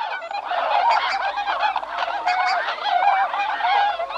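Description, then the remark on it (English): A flock of whistling swans calling continuously, a dense chorus of overlapping goose-like honks and hoarse yelps with no whistling tones, steady and fairly loud throughout. “And I wondered what the sound was since it's called the whistling swan, and this is what it sounds like.”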